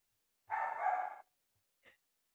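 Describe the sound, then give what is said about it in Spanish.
Dogs barking: one long, loud, drawn-out bark followed after a short pause by a brief, quieter yip, with no talking. “Eso de ahí fue donde ladraron.”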